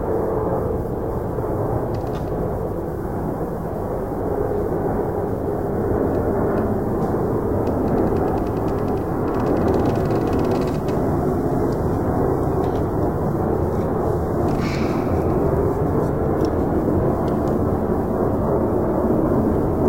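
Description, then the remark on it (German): A loud, steady low-frequency roar of heavy propeller military transport aircraft overhead in a forest, in a 1991 recording by Peter Cusack, a continuous droning rumble that fills the whole stretch without pause, with no voices present. “Transportflugzeuge des Militärs tönen gegen einen Rehbock und einen Fuchs an.”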